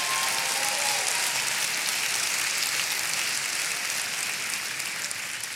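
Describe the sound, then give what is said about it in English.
A light, scattered golf clap from an audience in church, a soft steady patter of many hands that holds an even level for several seconds before easing slightly, with no voices over it. “Now there's a golf clap if I've ever heard one in the house of God.”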